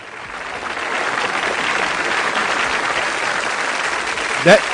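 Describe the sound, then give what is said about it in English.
Sustained audience applause for someone's hard work, a dense wash of clapping from many hands that swells early and holds steady, with a brief louder burst near the end. “Those applause goes out to you for your hard work and taking a chance, because I know it's not popular doing what you're doing right now.”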